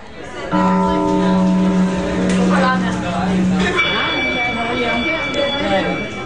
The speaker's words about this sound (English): As the bell rings at Sussex Central High School, throngs of students transition to their next classes, and teachers quickly walk through their bustling hallways, pushing their carts with books, papers, and laptops.